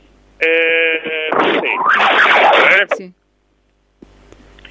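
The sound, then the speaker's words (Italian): Wind blasting into a phone microphone outdoors at the Bastione in Cagliari, a loud, harsh, distorted roar with a buzzing tonal edge at first, lasting about two and a half seconds before cutting off abruptly into near silence. “Ah, il vento, c'è il vento.”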